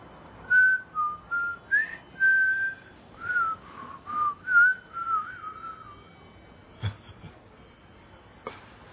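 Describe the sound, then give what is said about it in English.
A person whistles a quick run of bright, clear notes that hop up and down in pitch, imitating a wind chime. The tune stops after about six seconds, followed by a couple of soft knocks. “It's just imitating the wind chime.”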